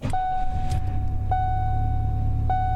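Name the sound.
car engine starting up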